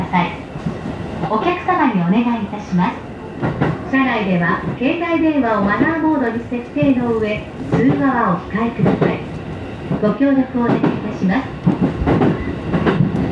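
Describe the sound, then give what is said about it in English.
An Omen Line commuter train bound for Omen rumbles steadily along the rails, a constant low roar and rattle heard from inside, while a pre-recorded onboard announcement speaks continuously over it, naming the next station, Ushihama. “This is an Omen Line train for Omen.”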